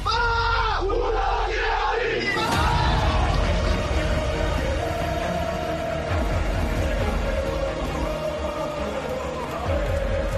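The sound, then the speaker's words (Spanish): Real Madrid football fans at the Bernabéu roar as one on a big match night, a dense, loud wall of voices that swells from a brief chanted cry into a sustained, churning crowd roar lasting to the end. “Un equipo. Una afición. Un grito.”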